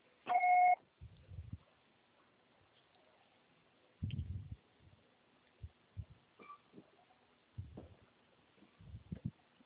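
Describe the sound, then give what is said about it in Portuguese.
A single short, steady voicemail recording beep sounds at the start, followed by scattered low, muffled thumps and rustling over a quiet, phone-line hiss. “grave seu recado agora.”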